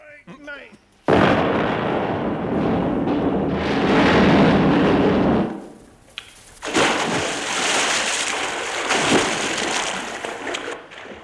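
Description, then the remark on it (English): In The Goon Show, a BBC radio comedy, a bridge is blown up with a plunger: a sudden, loud explosion erupts into a long roaring rumble, followed by a second crashing burst of debris and heavy splashing as the bridge collapses into water. “We've come to blow the bridge up.”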